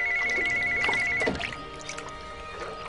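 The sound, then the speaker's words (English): A cordless phone rings in a bathroom with a steady electronic trill for just over a second, then stops, over a background of splashing, running water as a woman sits in the bathtub. “She gets a phone call from John.”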